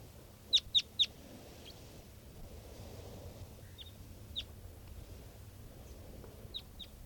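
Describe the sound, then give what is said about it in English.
A wild bird calls with three quick, sharp, high chirps in a row, then scattered fainter chirps follow over a steady low background rumble. “And this is another one of the birds.”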